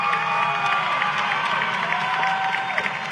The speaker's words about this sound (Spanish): Los aplausos hablan por sí solos.